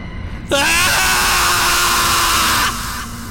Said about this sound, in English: A scream finally flew out of his mouth, one fed by ensuing madness.